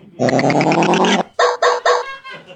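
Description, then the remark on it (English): A Digidog robot police dog, gifted to the NYPD, barks loudly: one long, buzzy, electronic-sounding howl followed by three short, clipped barks in quick succession, with no talking. “Is that that robot dog from the news?”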